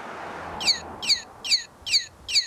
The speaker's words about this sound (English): It's easy to miss, if not for the chirping red plastic motion-activated birds that greet you as you walk by.